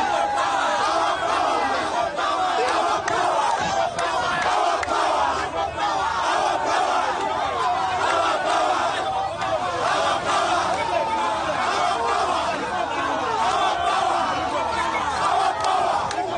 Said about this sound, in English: Media reports say crowds chanting slogans gathered at the police station holding Chagulani.